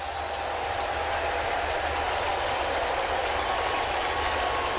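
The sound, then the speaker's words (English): A stadium crowd at a Milwaukee Brewers baseball game applauds steadily, acknowledging pitcher Adam Wainwright in the seventh inning, a dense sustained wash of clapping and cheering that holds at an even level for several seconds with no speech over it. “The first hit of the game for the Milwaukee Brewers, and it is McCutchen who comes up with a two-out hit, and the crowd acknowledges Adam Wainwright.”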